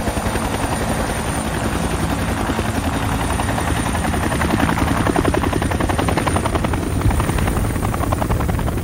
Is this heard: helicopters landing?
yes